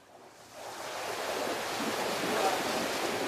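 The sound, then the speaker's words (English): Sea waves wash around a sailing ship in a continuous broad rush, swelling gradually louder over a few seconds with a faint windy hiss, and no one speaks. “Imagine you've run away to sea on a sailing ship.”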